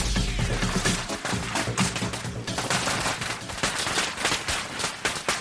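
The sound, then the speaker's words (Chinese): A long string of firecrackers pops and crackles in rapid, dense bursts, loud, continuing without pause for the whole stretch with no voices. “在五的空间放放鞭炮呢也是不错的”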